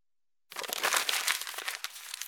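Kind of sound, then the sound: household object, paper crumpling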